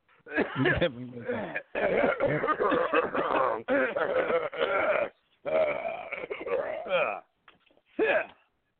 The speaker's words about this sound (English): Well, all right. Sorry. Let me clear my throat.